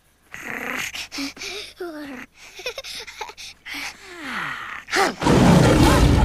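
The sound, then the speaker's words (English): An angry roar from Simba the lion bursts out loud at the end, a rough, harsh blast following a stretch of snarling, growly vocal sounds. “Simba roars in anger.”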